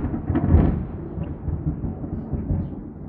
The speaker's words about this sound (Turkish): Ama bak gök gürültüsüne bak.